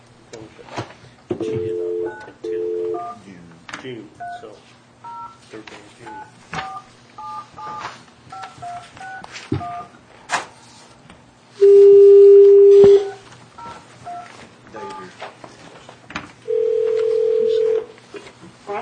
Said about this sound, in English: a phone call.